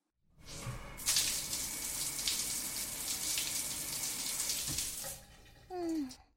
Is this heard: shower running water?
yes